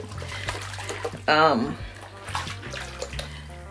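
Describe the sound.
Bath water runs steadily from a tap, a continuous rushing hiss filling the whole stretch, with a brief voice rising over it midway.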